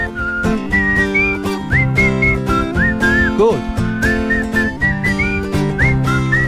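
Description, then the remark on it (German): A melodic whistled tune rides over a steady backing band with drums, the whistle gliding between notes in short repeated phrases, loud throughout. “Burnout, Burnout, durch die USA pfeifen.”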